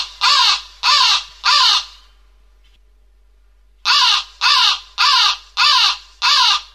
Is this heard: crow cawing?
yes